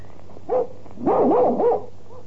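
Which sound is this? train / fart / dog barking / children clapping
dog barking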